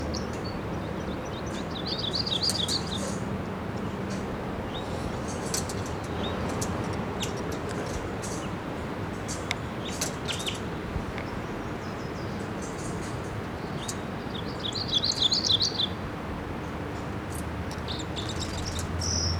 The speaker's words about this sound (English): crossbill fly in here, and I hear it chittering in the camp. Somewhere out here, here it is. It's a red male. And it's in the ponderosa pine above the nest, about 50 feet up.